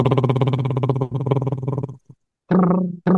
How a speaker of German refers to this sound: Und jetzt auf einem Luftstrom ausatmen und versuchen, die Lippen möglichst lang flattern zu lassen.